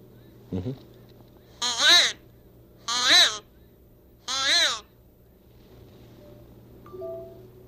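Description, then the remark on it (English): Three loud, raspy caws are blown on a wooden or plastic crow call whistle, evenly spaced about a second apart, with a short low honk just before the first, imitating a crow. “Sort of made out of wood or plastic. A crow whistle.”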